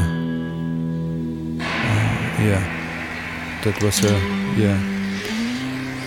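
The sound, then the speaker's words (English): A single deep, low guitar note rings out steadily for about a second and a half, then stops, followed by a noisy, hissing background with voices talking. “definitely a deep note on the guitar. Definitely one of the deepest notes on the guitar possible.”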